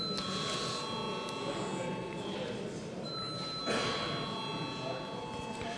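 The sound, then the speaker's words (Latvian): A parliament chamber bell rings steadily, on request, before a vote on the Finance Minister's proposal number 26: one unbroken electric tone held for several seconds over a low murmur of voices and shuffling. “Deputāti prasa balsojumu, lūdzu zvanu.”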